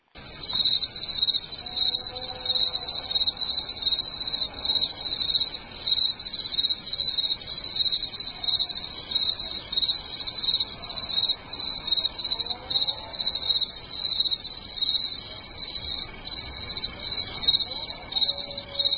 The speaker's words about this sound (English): Now, in the background, you're going to hear you're going to hear the crickets in the foreground, but in the background, what I want you to listen to is there's this howl.